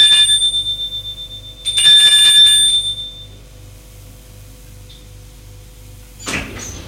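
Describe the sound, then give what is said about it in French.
A man rings the doorbell of the right-hand door on the second floor of an apartment building. It rings twice, a bright sustained metallic ring that stops and starts again, over a low steady hum, followed by a quiet pause and a brief rustling thud near the end. “Porte droite, il sonne.”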